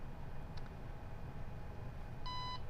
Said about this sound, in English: So we have our beep, lets us know that we're connected.